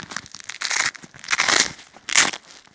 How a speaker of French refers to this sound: Alors là, pour optimiser le sac au niveau de la simplicité, j'ai conçu le sac pour pouvoir enlever les bretelles grâce à des clips et puis enlever la ceinture de serrage. Donc on enlève ici avec le scratch.